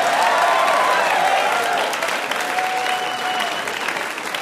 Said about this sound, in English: Like, that was amazing. They were really cheering for St. Elsewhere.